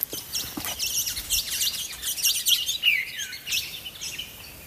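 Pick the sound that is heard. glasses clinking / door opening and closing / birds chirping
birds chirping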